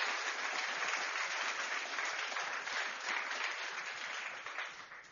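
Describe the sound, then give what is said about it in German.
Sustained applause from an audience for the people who edited a video together, a dense wash of many hands clapping at steady volume for several seconds before tapering slightly at the end, with no voices over it. “Ich sage, da geben wir mal einen Applaus.”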